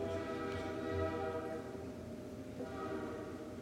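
A passing train's horn blares steadily for several seconds, a loud, sustained chord with a rumbling low end, with no talking over it.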